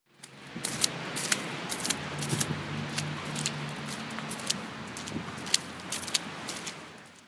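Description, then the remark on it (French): Wet, squelching footsteps crunch through slushy snow puddles in the cold at a steady walking pace, over a low outdoor rumble with a faint engine drone in the middle stretch. “Marcher dans les flaques de neige dans le froid.”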